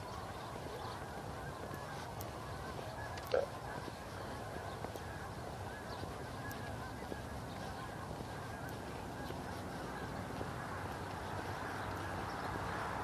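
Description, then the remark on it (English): A large flock of about 100 or more wintering geese, come down from up north, flies over with a dense, overlapping chorus of honking calls that rise and fall steadily throughout, continuous, with no talking. “Oh, there they are. Wow, that is a big flock.”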